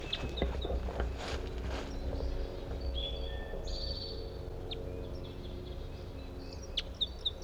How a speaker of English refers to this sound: I'm gonna try to record a different bird. I think there's a male. The male whose female is caught is over in this other direction here.